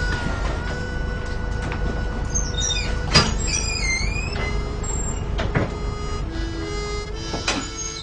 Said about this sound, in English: Oh! That's my bus.